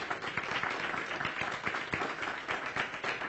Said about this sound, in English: Praise the Lord. Clap those hands. Let's salute the warrior.